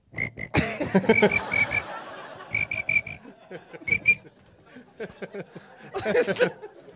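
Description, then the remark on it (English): Someone whistles a chirping cricket imitation: short, shrill trilled bursts in quick groups of three or four, repeated several times, with clicking mouth noises and a brief chuckle near the end. “That was a whistle. That was a cricket jumping on a buzzer. It sounded like a giant cricket.”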